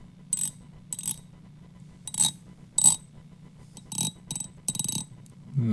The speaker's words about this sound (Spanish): No sé, ¿es un grillo? Sí, adivinaste.